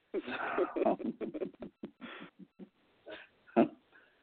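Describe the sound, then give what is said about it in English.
A dog barks in a quick, dense flurry of sharp barks, then lets out a few more spaced-out barks with brief pauses between them, ending with one loud bark. “Well, my dog just barked, and my dog loves Chihuahuas, so maybe they're talking to each other.”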